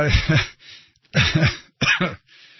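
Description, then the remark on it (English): Three loud coughs, each a rough, throaty burst lasting about half a second, separated by brief pauses, with no talking around them. “I'm just going to end it with a cough.”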